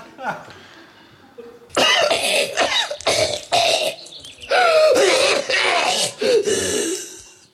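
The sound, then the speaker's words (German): A person coughs in a rapid run of loud bursts, five or six harsh hacks back to back after a quiet start with faint background murmur. “Na, ich hätte die Idee, wir hören, weil es so schön ist, alle Huster nochmal nacheinander und die Teams sagen, wem sie den Huster zugeordnet haben und wir sagen, ob es stimmt oder nicht.”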